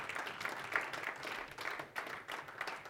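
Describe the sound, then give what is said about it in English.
An audience of men at a Saturday morning gathering applauds the crew who cooked the food, with dense, steady clapping, a continuous crackle of many hands at moderate loudness with small swells, and no voices over it. “That clapping's for you”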